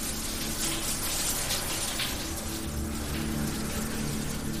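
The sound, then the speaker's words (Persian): A hot shower runs steadily, water spraying and splattering in a constant hiss with no breaks or changes in intensity, moderately loud, with no voices. “پس ترسم رو گذاشتم کنار، رفتم زیر دوش آب داغ و با خیال راحت دوش گرفتم.”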